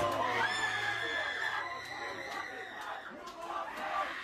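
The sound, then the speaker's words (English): A woman screams excitedly and continuously at high pitch over the roar of a large arena crowd after her favoured fighter wins the main event, her sustained, wavering shriek standing out loudly above the cheering. “Oh my God, she's going crazy. Screaming at the top of her lungs.”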